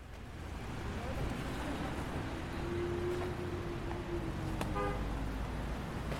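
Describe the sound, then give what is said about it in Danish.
A car engine rumbles as a couple of cars drive through the gateway arch into the Al-Amari refugee camp, vehicles rolling past with a low droning tone rising and fading, followed near the end by a brief honk of a horn. “Et par biler kører gennem porten og ind i lejren.”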